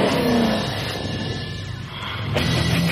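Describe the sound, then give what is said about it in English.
The Brodix engine of an off-road trophy truck, rated at 900 horsepower, roars and revs, its loud throaty rumble easing slightly before surging again with a sharp burst of throttle near the end. “built the trophy truck to true through any terrain without a problem.”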